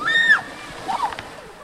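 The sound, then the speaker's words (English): A skier skis down a hill and skims and splashes across a pond of ice-cold meltwater on a half-melted glacier at the annual Slush Cup, in a steady watery rush, with high shouts and cheering from onlookers rising over the noise. “The object is to ski down the hill and skim across the surface of the pond to the opposite shore.”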